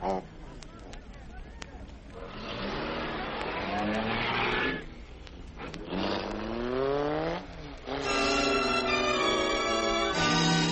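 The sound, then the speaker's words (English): A car engine revs up loudly in rising and falling surges, then pulls away with a strained whine, continuous over about ten seconds with brief dips between bursts. “Now, into this car.”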